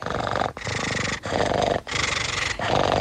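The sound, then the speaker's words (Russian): A person imitates a cat with a run of five loud, raspy growling bursts, each about half a second long, separated by brief pauses in a steady rhythm, recorded as a voice message sent in by a listener from Penza. “Наверное, в прошлой жизни я был котом.”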